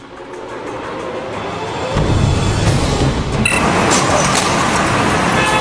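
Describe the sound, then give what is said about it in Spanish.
Steady street traffic roars, with heavy engine rumble swelling midway and a brief car horn sounding over the continuous road noise. “Cuando el tráfico se detiene, observe la furia de este criminal para romper el vidrio de este auto.”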